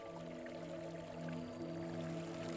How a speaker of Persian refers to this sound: این آبیه که به دلتای آکاوانگو میریزه. باور نکردنیه. این همه راهو از آنگولا اومد و ما حالا روی لبه جلوی آب ایستادیم. ازش فیلم برداری کردیم. این دیوار آبی میریزه به بیابون و ما تونستیم ازش فیلم بگیریم.